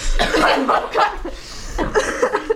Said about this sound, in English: I had to cough, okay? I've been holding mine in.